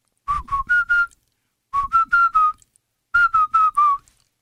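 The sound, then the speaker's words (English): Someone whistles three short four-note phrases, the three different tonal tunes of the syllables "Mabatengi", each tracing a slightly different pitch contour like the tones of spoken syllables, separated by brief pauses. Clear, with no talking. “That's interesting that you can whistle the tones.”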